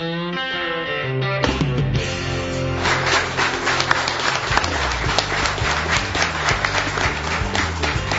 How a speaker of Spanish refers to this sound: Acá todo el mundo es muy cortés, se intercambian aplausos de la platea a la mesa, de la mesa a la platea.